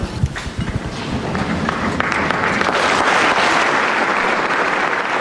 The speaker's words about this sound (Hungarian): Hangos tapsvihar, hiszen zsúfolás telve a 6. pálterem, ha jól láttam, még hátul az ajtók is nyitva, még ott is álltak zarándokok.